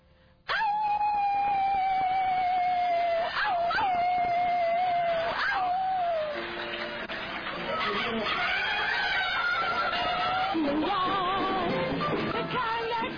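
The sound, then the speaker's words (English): A person howls like a wolf: long, loud, wavering cries held for several seconds, dipping and rising in pitch, then breaking into rougher yelping wails. “You're just slain of the spirit, the glory's on you, the power of God's on you, and you're going to howl like a wolf in the church house.”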